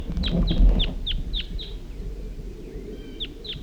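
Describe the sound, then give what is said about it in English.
A wild bird calls in a quick series of short, downward-sweeping notes, about six in a row, then pauses before two more, fairly close, over a steady low rumble of background noise. “At least one of the birds is calling and coming back.”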